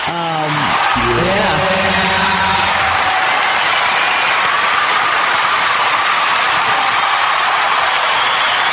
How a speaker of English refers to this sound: Some applause for that, I'm going to say, right? Amazing. Amazing, amazing, amazing.